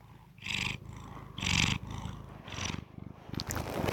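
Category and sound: animal, cat purring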